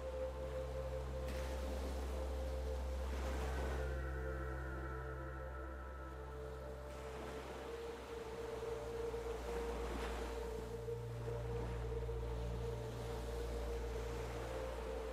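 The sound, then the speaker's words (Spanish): Sea waves wash onto shore in a continuous rushing roar, foaming as they break, swelling every few seconds into soft crashes, with a steady low hum running underneath and no voices. “Observas el agua del mar, su color turquesa brillante y la espuma que se crea en las olas cuando rompen en la orilla.”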